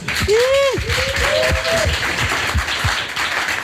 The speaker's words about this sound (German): Einen Applaus bitte.